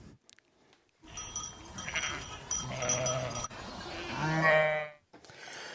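Several sheep bleat loudly, their wavering cries overlapping for a few seconds before one long, quavering bleat ends the sequence. No one speaks.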